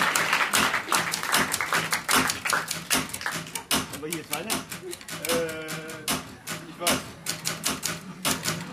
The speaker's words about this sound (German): Hallo, wie er die Schreibmaschine spielt. Mega aggressiv.